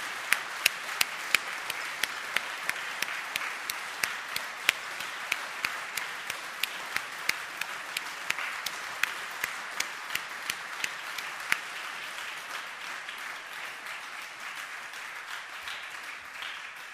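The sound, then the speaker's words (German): A crowd applauds steadily for about seventeen seconds, a dense patter of many hands with a few sharper individual claps standing out early on, gradually thinning toward the end. “Und wenn Sie vorhin so freundlich bei mir geklatscht haben, dann dürfen Sie jetzt auch noch einmal klatschen.”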